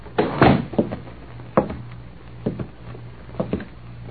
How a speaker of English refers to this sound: They exchanged nods, and apparently satisfied, the man closed the door.